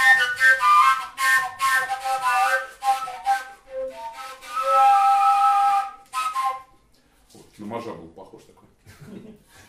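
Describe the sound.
A Russian rozhok horn plays a bright, reedy melody of quick notes and a few held tones for about six seconds, then stops as a voice begins talking.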